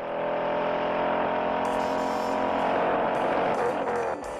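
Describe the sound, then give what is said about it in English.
A powerful Ford Mustang engine roars steadily at high revs, loud, with bursts of tire squeal and rising intensity, in the car chase of the 1968 film Bullitt, where Steve McQueen drives the Mustang through the streets of San Francisco; no one speaks. “In the movie, there's a pretty famous chase sequence where Steve McQueen drives his Mustang all over the streets of San Francisco.”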